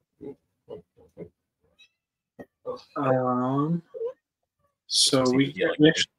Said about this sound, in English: So I'm just hearing a phantom cat.